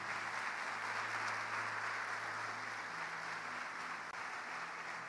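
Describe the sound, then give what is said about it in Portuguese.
A church audience applauds Jesus steadily, a dense wash of many hands clapping at an even loudness throughout, with no speech over it. “Quem crê junto com essas irmãs aí, dá glória a Deus e aplaude Jesus. Pode aplaudir Jesus.”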